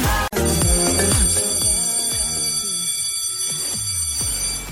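A loud school bell rings continuously for several seconds, a bright, sustained electronic ringing with shifting tones and no voices.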